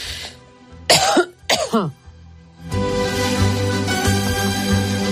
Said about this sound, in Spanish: perdón, con las toses.